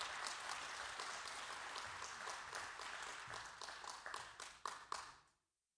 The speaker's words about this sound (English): Yes, give her a hand clap.